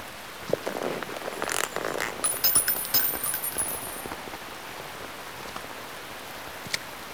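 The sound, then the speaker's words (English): Steady rain patters down with scattered drops and brief crackling bursts, a continuous moderate wash of noise with no voices, heavier for a few seconds early on before settling. “You can entertain me until the rain stops.”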